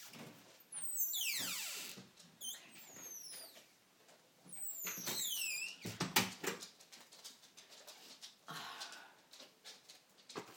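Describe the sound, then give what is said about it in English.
A front door being handled and locked while rain falls: high squealing hinge or latch squeaks sweep up and down, followed by a string of sharp metallic clicks and rattles, with no talking. “I'll make sure I lock the front door now.”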